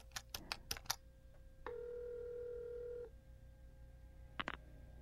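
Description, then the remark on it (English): A wall telephone being dialed: a quick run of clicks, then a steady electronic tone for over a second, followed by a brief pair of button clicks. No voices. “I took the phone from the wall and dialed”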